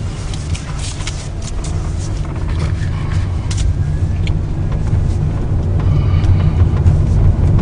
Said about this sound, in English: Here comes the truck. Right behind me. I have to get out of that guy's way.